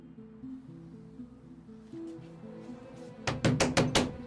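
Five quick, loud knocks ring out in a rapid run on a door that is locked from the inside, following a few seconds of soft, steady background music with no one speaking.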